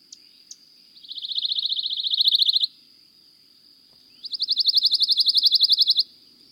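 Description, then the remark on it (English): Two dry, rapid trills of a pine warbler, each about two seconds of fast, evenly repeated high notes that swell slightly, separated by a short pause, clear. “That was the dry trill of a pine warbler.”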